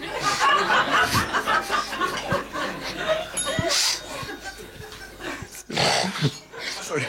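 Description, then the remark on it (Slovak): A dog with something in its sinuses snorts and snuffles over and over, with irregular wet, congested bursts of air through the nose and short gaps between them. “Máme psíka, má niečo v dutinách a toto robí stále, takže dá sa toho zbaviť, alebo to už je to?”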